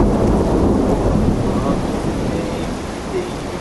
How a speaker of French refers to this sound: Oh putain, l'orage, fait chier quoi.